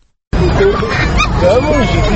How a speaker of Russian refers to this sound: Это скулят щенки, которые научились ходить совсем недавно. Один подошел ко мне и, уткнувшись в рукав, попытался согреть свою мордочку.